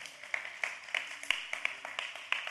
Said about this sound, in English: Wasn't worship amazing? Come on, let's give the worship team a hand clap. And the band.